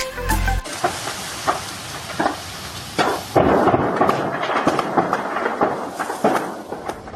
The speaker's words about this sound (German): Inferno am Tomorrowland. Am Mittwochabend ist die Hauptbühne vom Musikfestival in Belgien komplett unter Flammen gestanden.